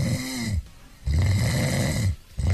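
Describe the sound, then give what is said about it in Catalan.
Loud, rasping human snores, two or three heavy rattling breaths in a row with brief quiet gaps between them, no talking. “Això és un ronquido de triceratops.”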